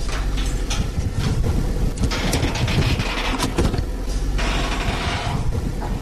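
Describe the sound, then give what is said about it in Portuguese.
A garbage collection truck works at 9 p.m. in the Olene neighbourhood, north of the capital, its engine rumbling steadily under whining hydraulic and mechanical noise, with a few clanks and surges throughout. “À noite, às 21 horas, um caminhão de recolha de lixo faz o seu trabalho no bairro de Olene, mais a norte da capital.”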